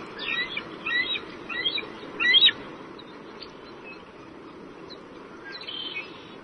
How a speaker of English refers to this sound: Well, we have some domestic chit-chat from an eagle's nest. Oh, good. Here, so we can hear what they sound like.